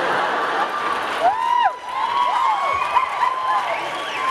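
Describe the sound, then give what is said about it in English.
Coyotes howl and yip in an overlapping chorus, their high wavering wails rising and falling again and again over a steady hiss, with no one talking. “Whatever, though, that's a coyote. That's the different sound.”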